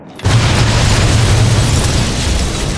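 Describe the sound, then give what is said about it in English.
A blasting cap crimped to a cord, set off by a safety fuse lit with a wooden match, explodes in a parking lot with a sudden loud bang, then a dense roaring rumble that stays heavy for a couple of seconds and fades only slightly, with no voices. “After removing the radio initiator, he crimped the blasting cap to the cord and set the safety fuse alight with a wooden match.”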